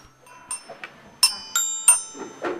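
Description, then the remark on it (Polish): A child plays a short, halting tune on small school bells (dzwonki): about half a dozen bright, ringing notes at different pitches, struck unevenly, each chiming briefly before the next. “To zagraj, spróbuj nam zagrać na tych dzwoneczkach.”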